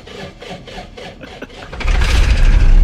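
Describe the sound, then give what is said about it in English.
A boat engine cranks with several rhythmic turnovers, then catches and roars into a loud, steady rumbling idle, with no one talking. “Whoa, listen to that purr.”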